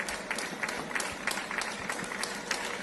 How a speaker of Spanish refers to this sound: Y es que los aplausos, ¿verdad?, han formado parte de la banda sonora casera diaria en Madrid y en toda España. Reconocimiento y afecto sonoro que durante los meses más duros del inicio de la pandemia iban dirigidos en especial al personal sanitario